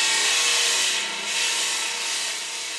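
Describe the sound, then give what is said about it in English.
An electric table saw grinds steadily through a block of stone that a 23-year-old worker pushes across it in a workshop along the Grand Trunk Road, with water pouring down to cool the blade, giving a loud, harsh, hissing whine with a faint tonal hum. The sound dips slightly twice over nearly three seconds. No one speaks. “pushes a block of stone across an electric table saw.”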